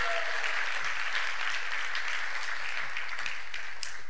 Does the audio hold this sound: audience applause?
yes